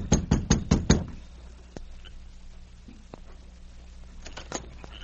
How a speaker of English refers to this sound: Within a short time, Sergeant Preston and King reached the Evans cabin and knocked at the door.